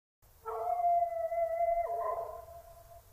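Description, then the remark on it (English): A dog lets out one long, loud howl of sheer terror at about three o'clock at night, a sustained wavering cry that drops in pitch toward the end before fading, with a low rumble underneath and no voices. “Again it came, not an ordinary howl, but a howl of sheer terror.”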